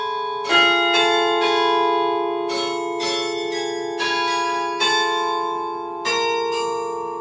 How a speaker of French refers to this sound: Inscrite au patrimoine mondial de l'UNESCO, elle possède aussi un carillon qui résonne dans Châlons tous les quarts d'heure. Écoutez.